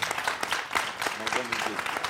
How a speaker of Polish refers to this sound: Także bardzo dziękujemy profesorowi Zbigniewowi Zamachowskiemu. Wielkie brawa.